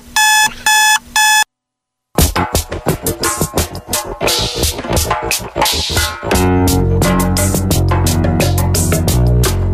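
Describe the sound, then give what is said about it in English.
An alarm clock beeps in three quick, loud electronic bursts, then after a brief silence upbeat music with punchy drums kicks in and builds. “Let's wake you up.”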